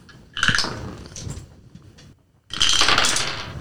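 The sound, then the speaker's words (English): Dice clatter and tumble across a hard tabletop in two bursts as players in a tabletop role-playing game roll initiative, a sharp rattling spill that fades, then a louder, denser clatter of many dice rolling at once. No voices are heard. “Roll initiative, everybody.”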